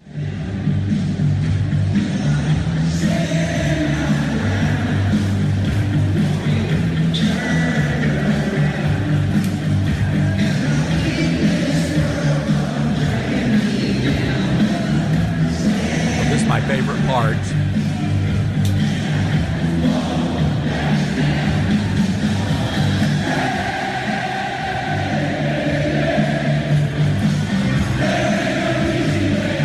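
A huge stadium crowd of Florida Gators fans sings along to a song in unison, a loud, steady wash of thousands of voices that holds for the whole half minute without a break.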